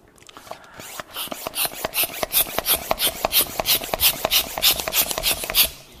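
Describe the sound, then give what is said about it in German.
A balloon is inflated and handled, with a steady run of quick, rasping strokes and rubbery rubbing, roughly four per second, fairly loud, with no voices. “Und ich möchte diese Vorstellung mal mit einem Luftballon euch vormachen.”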